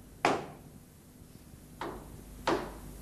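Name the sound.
knocking on a door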